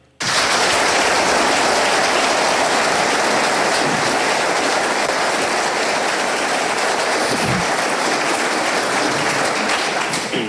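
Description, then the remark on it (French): A large debate audience applauding one of the candidates, Bernese Pierre-Alain Schneck or Jurassian Charles Juillard. Dense overlapping clapping starts abruptly and stays loud and steady for about ten seconds, with no voices heard over it. “On vient d'entendre hein, les applaudissements.”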